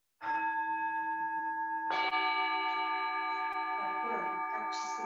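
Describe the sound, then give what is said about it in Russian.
Two singing bowls ring one after another, the second struck about two seconds in, their steady metallic tones overlapping and sustaining with a gentle shimmer, fairly loud, no voices. “Любопытный такой момент, что младший брат гонга, чаша, вот сейчас я можно попросить у вас сыграть на двух чашах, это как бы разные фрукты.”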